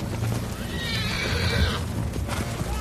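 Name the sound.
horse neighing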